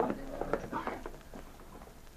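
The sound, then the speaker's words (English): Hooves clop at a steady walking pace, then slow and fade out as a horse is brought to a halt at night in front of the Northwest Mounted Police headquarters in Dawson City. No one speaks. “Sergeant Preston brought his horse to a stop in front of the Northwest Mounted Police headquarters in Dawson City”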